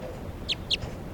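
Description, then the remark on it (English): A light-coloured female crossbill calls rapidly, giving a quick pair of sharp, high chirps in fast succession, with a fainter third note trailing after, over a low background hiss. “Left crossing bill. Definite female, real light color. Calling rapidly now.”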